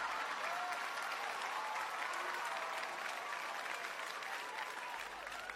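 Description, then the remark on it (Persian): Steady applause from a crowd, dense rapid clapping sustained evenly for several seconds with no talking over it. “یک چکچک و یک تشویق به افتخاری بزرگ بارن.”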